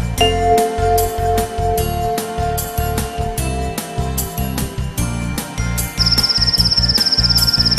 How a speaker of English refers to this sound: Sounds like a cricket.